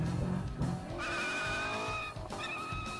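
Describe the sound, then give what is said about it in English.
A Corvette sports car's tires squeal loudly in sustained, high-pitched screeches over a revving engine, with a brief break before the skidding starts again, continuous. “Sounds like you behind the wheel.”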